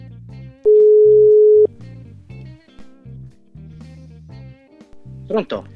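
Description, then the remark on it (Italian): A single loud, steady ringback tone of an outgoing phone call sounds for about a second, then stops, over a busy background of music-like sounds and faint voices. “Andiamo a conoscere questi sconosciuti, dai. Andiamo. Suona. Squilla.”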